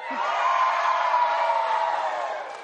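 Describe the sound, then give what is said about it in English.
A large audience cheers and whoops on cue as if their team had just won, in one sustained, loud roar of many voices, holding steady for a couple of seconds before easing off slightly. “I want you to cheer like they won when we say, let's get a little crazy.”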